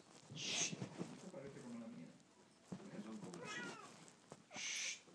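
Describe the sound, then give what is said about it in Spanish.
A cat gives a single drawn-out meow midway through, fairly clear, with low murmured voices around it and short hissing bursts at the start and end. “¡Miau! ¡Pasa!”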